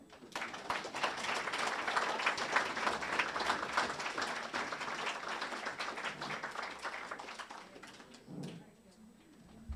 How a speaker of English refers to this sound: Let's give everyone another round of applause.